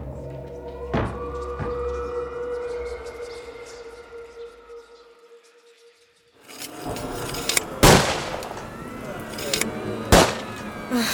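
Two loud, sharp musket shots crack out a couple of seconds apart over a rough, rumbling background, after a steady droning tone punctuated by a pair of dull thuds.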